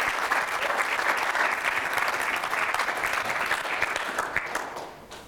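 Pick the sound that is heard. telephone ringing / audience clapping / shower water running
audience clapping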